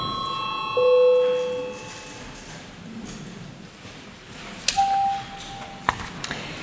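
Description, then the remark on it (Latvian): A parliamentary chamber bell in the Latvian Saeima rings in two separate sustained electronic tones, the first lower and the second higher, each lasting about a second over a quiet murmur with occasional knocks. “Lūdzu zvanu.”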